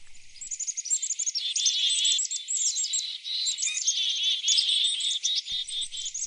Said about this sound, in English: Chris Templeton was walking through the rattlesnake wilderness of Montana a few years ago when he came across a flock of black-capped chickadees mobbing a predator, a pygmy owl. He turned on his recorder to capture the scene.